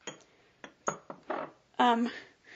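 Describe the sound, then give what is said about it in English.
A small, inexpensive bell with detailed engravings gives a few quiet, short metallic clinks, then one longer tinkling ring near the end; the ringing is soft and thin rather than loud. “Now, this one doesn't have a loud ringer by any stretch of the imagination.”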